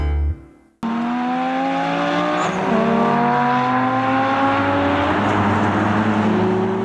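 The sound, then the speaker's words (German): Formula One race car engines roar loud at the Belgian Grand Prix at Spa-Francorchamps after a brief quiet start, their high whining pitch climbing and dropping through rapid gear changes, with no talking. “An diesem Wochenende dröhnen endlich wieder die Motoren, wenn die Vollgas-Elite beim Großen Preis von Belgien auf dem Ardennenkurs von Spa-Francorchamps zum 13.”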